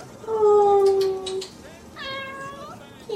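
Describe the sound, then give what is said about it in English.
A family's cat meows twice on Christmas Eve 2017, a long drawn-out cry followed by a shorter, rising-and-falling meow, both clear and fairly loud against a quiet background. “We've got cats.”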